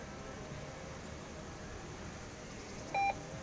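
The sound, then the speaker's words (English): A single short electronic alarm beep from an AED cabinet, set off as it is opened to grab a Zoll AED, sounds near the end, clear and fairly loud above a steady background hum, with nothing else happening before it. “So just on either side, you're just going to grab, and alarm would be going off, and then you're going to grab this old AED, and literally you just take it.”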